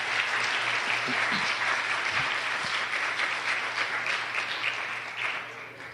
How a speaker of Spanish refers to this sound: Démele un aplauso.